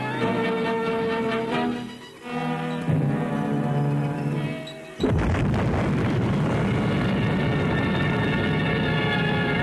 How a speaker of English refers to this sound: The evacuated ruler of Bikini, King Judah, gets a front row seat at the bomb blast as he arrives aboard the Mount McKinley and is greeted by Admiral Blandy, Joint Task Force 1 commander.